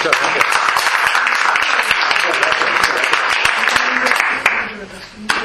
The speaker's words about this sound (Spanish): Yo creo que eso merece el mayor aplauso de recepción. Gracias.